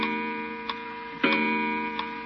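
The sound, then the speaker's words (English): An old weight-driven clock, just wound by pulling its chain, ticks slowly and steadily, each tick sharp, with a faint ringing hum lingering underneath and no voices. “Now it's wound until the weight works up to the top again. That's neat. This isn't a bad old clock, huh?”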